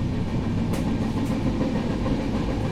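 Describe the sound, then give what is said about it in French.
A commuter train in Mumbai (Bombay), India, rumbles and clatters steadily along the rails, loud, with a continuous low roar and a couple of brief sharp clicks from the wheels. “Les trains à Bombay, heureusement, on a ces compartiments pour femmes qui nous permettent d'éviter les regards appuyés, le harcèlement et les agressions sexuelles pendant que vous rendez au travail.”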